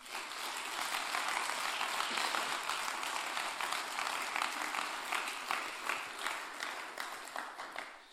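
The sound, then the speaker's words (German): A crowd applauds two young people who built a model of a planned building, steadily for about eight seconds, a dense wash of many hands clapping at even loudness with scattered individual claps standing out, no talking over it. “Und ihr dürft denen mal einen riesen Applaus geben.”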